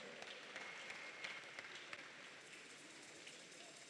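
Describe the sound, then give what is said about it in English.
An audience claps their hands to celebrate Jesus in a dense, steady wash of applause, many overlapping claps forming a continuous crackling texture at a moderate, even level with no voices. “Celebrate Jesus by clapping your hands.”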